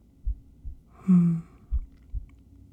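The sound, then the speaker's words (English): Deep, muffled heartbeat thumps come in two lub-dub pairs, soft, with a brief low hum or sighing tone between them. “Like being inside a sleeping bag made of softness and warmth and heartbeat.”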